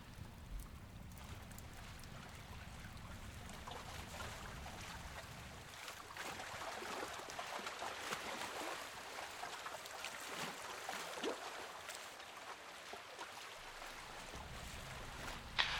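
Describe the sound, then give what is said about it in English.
Lake water laps and washes steadily with a soft, hissing texture and a low rumble early on, like small waves against the shore of a lake. No voices, just continuous ambient water. “It's a lake, though.”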